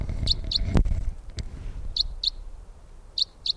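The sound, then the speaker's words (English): Sharp, high flight calls of a female crossbill flying overhead come in three quick doubled bursts, a kip-kip repeated every second or so, clear over a quiet outdoor background with a single soft knock early on. “In a 306 flight call. Here comes a crossbill directly for us.”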